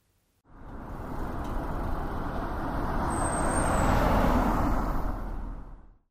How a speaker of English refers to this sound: The bus stop should be somewhere around here. Look over there! A black double-decker bus.